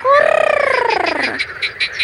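A loud frog croak: a rattling call that slides downward in pitch, followed by a quick series of softer pulsing croaks. No voices are heard.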